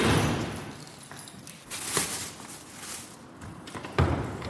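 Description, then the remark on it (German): Clicks and clunks of a 2000-type key, as used by refuse collectors, working the lock of a supermarket's waste room door after closing time, then the door opening, with two sharper knocks a couple of seconds apart over a soft, steady background hiss. “Mit einem 2000er-Schlüssel, wie ihn auch die Müllabfuhr benutzt, öffnet Eva die Tür zu einem Müllraum.”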